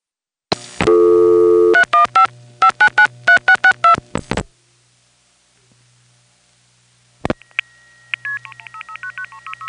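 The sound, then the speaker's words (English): Bell System rural double ring on a long-distance call, with dial pulsing: a loud opening tone, then rapid clusters of buzzy pulses, a few seconds of silence, a click, and a quick run of thinner, higher-pitched pulses. “long-distance call, this time to a Bell System rural double ring”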